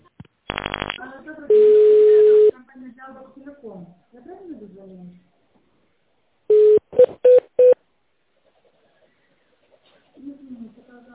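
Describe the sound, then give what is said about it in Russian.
A quick burst of telephone keypad tones gives way to a long, steady ringing tone on the line, then the automated phone menu voice of the firm Farmed Yaroslavl speaks, listing numbers to press for departments, followed by a run of short, evenly pitched beeps as the call waits on hold. “Для соединения со специалистом по иммунобиологическим препаратам нажмите цифру 2.”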